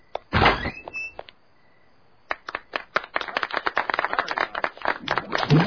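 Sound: door being opened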